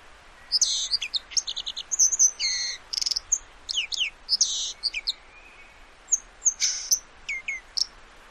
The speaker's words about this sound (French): Et voilà, la grive musicienne, elle fait ses derniers chants parce que bientôt elle va s'arrêter.